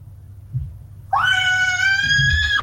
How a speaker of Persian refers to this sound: شما حتما در خانه هستین و از خانه با ما صحبت میکنین و صدای کودکا را هم ما میشنویم.